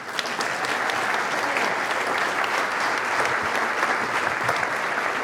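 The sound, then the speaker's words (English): A crowd claps steadily for several seconds, a dense, even wash of many hands at a constant loud level with no voices rising above it, applauding a team. “So y'all give her and this team a round of applause.”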